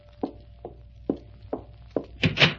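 Five firm knocks on a door, evenly spaced about half a second apart at moderate loudness, followed by a brief louder scuffle of noise at the end.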